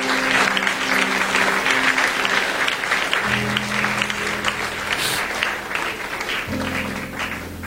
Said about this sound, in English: I want us to pray. Clap your hands. Let's bless the Lord.